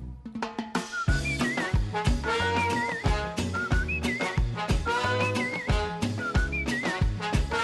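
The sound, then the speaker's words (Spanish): Bright, bird-like whistled phrases repeat over a full, rhythmic band arrangement, short trilling figures rising above the music every second or so, loud and upfront with no voices. “Oye, chicos, estos silbidos podían ser, por ejemplo, de pajarillos o pájaros que nos encontremos a nuestro paso.”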